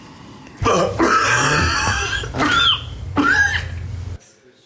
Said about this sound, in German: Okay, wir kommen zum achten Husten.